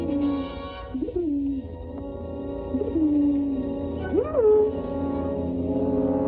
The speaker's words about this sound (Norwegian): Den flinke brevduen tok brevet, brettet det sammen og la det i postvesken sin. Fly nå, og måtte oppdraget lykkes!